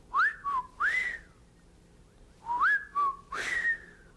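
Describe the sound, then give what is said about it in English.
A person whistles an imitation of a whippoorwill call twice, each a quick three-part phrase of rising and falling notes ending on a long high note, clear with a pause between. “You know how a whippoorwill sounds? Sounds something like whippoorwill, doesn't it?”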